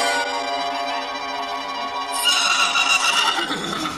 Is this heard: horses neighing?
yes